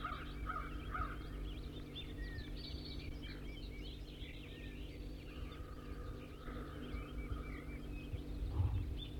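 wild bird singing

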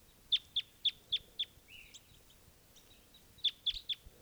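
male bird's flight song

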